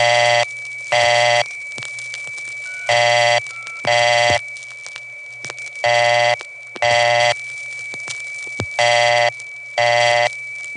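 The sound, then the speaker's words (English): A telephone vacant code tone from a place in the Bronx, recorded in 1976: loud, buzzy tone bursts arriving in pairs roughly every two seconds, repeating steadily, with a thin continuous high whine and faint line noise between them. “But this one place in the Bronx, despite all the places I've been, is the only place I've ever found that as a vacant code tone.”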